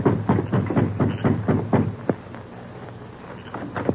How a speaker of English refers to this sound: Going to the front door, the Lone Ranger knocked.